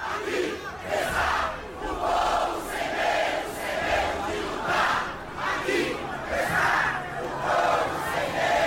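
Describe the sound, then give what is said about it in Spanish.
A large crowd chants in unison at the door of Lula's house, voices rising and falling in a steady rhythmic pattern of repeated phrases at a constant, loud level throughout. “Eso es lo que le cantan hasta ahora entonces en la puerta de la casa de Lula.”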